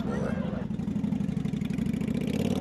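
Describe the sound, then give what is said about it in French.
A motorcycle engine rumbles loudly, a steady throbbing idle with a slight lift in pitch partway through, continuing for the full few seconds. “Les motards de cette Freedom Biker Church ont cela en commun, ils aiment les belles motos chromées”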